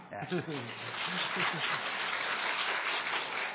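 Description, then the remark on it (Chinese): An audience breaks into steady, dense clapping that fills the whole stretch, with a few voices and a cheer rising over it at the start, after a speaker announces his 50th wedding anniversary. “拍手冇用，应该买蛋糕嘛。”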